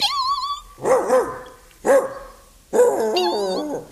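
After a brief high whistling tone, a small puppy gives three high-pitched, yappy barks, spaced about a second apart. The last bark is longer and wavering, with no talking.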